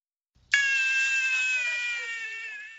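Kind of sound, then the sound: human body sound, hungry baby crying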